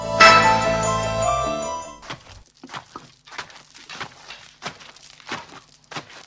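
A bright, tinkling instrumental hornpipe tune rings out loudly for about two seconds, then breaks off, leaving a voice speaking in short, scattered bursts.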